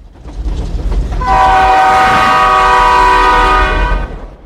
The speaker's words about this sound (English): The train stops at a platform busy with travelers.